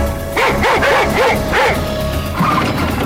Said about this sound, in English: But then I heard the sound that makes any escaped prisoner in Louisiana's blood run cold. Sound of the dog! I think they're taking out the dog!